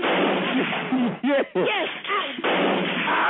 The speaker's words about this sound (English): Ma'am, could you stop screaming? Too loud. We can't hear. Would you tell him to turn them gunshots down?